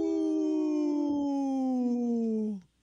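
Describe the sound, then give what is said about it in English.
A young wolf, just learning how to howl, gives a single sustained howl, slowly sliding downward in pitch for over two seconds, clear, then cutting off abruptly. “The little wolf that's just learning how to howl.”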